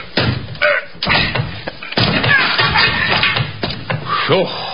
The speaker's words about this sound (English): Try your shoulder on that door